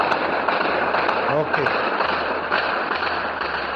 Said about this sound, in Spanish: Es el duro e impactante sonido de la guerra, los disparos que sorprendían a este misionero salesiano que se ha quedado allí en Sudán.